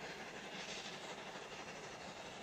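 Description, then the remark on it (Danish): A train rolls along the rails with a steady, soft rattle and broad rushing noise, continuous and even throughout, heard from inside the carriage on a long journey down through Europe, with no voices. “Toget rasler stille.”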